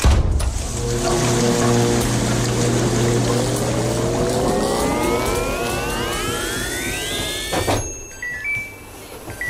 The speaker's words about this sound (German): Nein, nein, Waschmaschine.